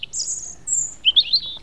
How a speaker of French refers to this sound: Oui, bonjour, je suis monsieur le rouge-gorge. Oui, j'habite dans la haie.